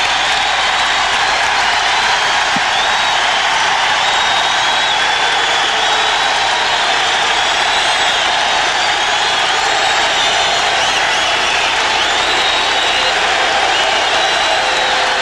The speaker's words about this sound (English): He received a 2-plus minute standing ovation from the crowd pre-game. Well, here it comes. The King is back. Bernard King.